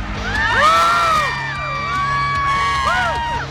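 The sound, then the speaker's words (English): A live crowd cheers loudly and steadily during the Preps Plus Chicago radio show on 720 WGN, with rising and falling whoops and whistles cutting above the broad roar throughout. “This is actually a live crowd, I promise.”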